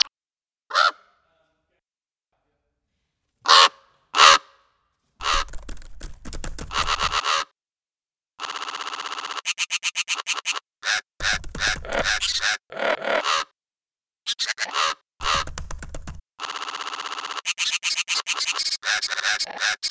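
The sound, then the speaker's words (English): Harsh, croaking raven calls: a few isolated caws at first, then a dense run of rasping, repeated calls, loud, with short pauses between bursts. “Raven one”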